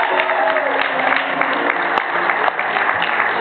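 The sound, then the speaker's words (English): A crowd cheers and applauds steadily, a dense wash of clapping and shouting voices holding at a constant loud level for a few seconds. “Yes, the crowd erupts with applause.”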